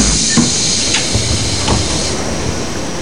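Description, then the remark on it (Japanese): Train doors closing, with a steady pneumatic hiss and a few soft thumps and knocks over a low rumbling train hum, and no voices. “はい、ドア閉まりました。”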